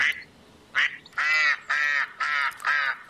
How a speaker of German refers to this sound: Hinter dem Spielplatz im Dehnepark in Wien liegt ein kleiner See. Das Wasser ist trüb und dunkel, ein paar Enten suchen nach Nahrung.